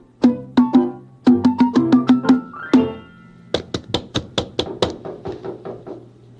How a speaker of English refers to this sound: You hear a knocking? That must be the door. That's not an echo. Let's go see who's at the door.